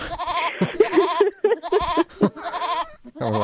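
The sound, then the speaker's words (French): A ewe bleats repeatedly, a string of loud, quavering calls with brief gaps between them and no voices. “Un petit coup de brebis.”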